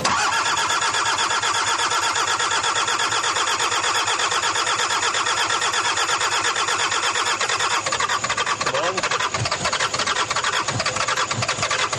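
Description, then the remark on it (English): A Toyota truck engine cranks with a steady, grinding whir for several seconds, then catches and settles into a rough, rumbling idle. Loud, with no voices. “the story of that Toyota truck is the story of Jeremiah”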